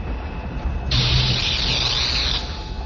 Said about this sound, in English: But there was no scream of destruction and pulse of power through the superweapon. A fizzle of sparks splattered out the front end of the Darksaber, but nothing more.